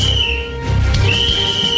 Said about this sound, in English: It's a whistle. And this is in case you cuss.